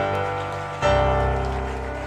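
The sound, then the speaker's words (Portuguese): A church audience stands and claps, applauding and glorifying the Lord, in a dense, steady wash of applause over sustained droning musical tones, the sound swelling noticeably louder partway through and staying full to the end. “Você pode ficar de pé aí aplaudindo o Senhor e glorificando o nome dele.”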